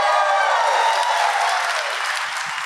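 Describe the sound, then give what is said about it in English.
Dense, sustained applause from a large audience filling a theater, a steady wash of many hands clapping at once, loud, tapering slightly toward the end with faint crowd noise. “Yeah, stop clapping.”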